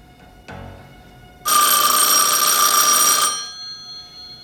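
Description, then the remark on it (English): A loud, bright telephone bell rings continuously for nearly two seconds, its metallic jangle dense, then cuts off and leaves a faint hum; a soft knock comes just before. “Larry makes to reach for the phone, then stops.”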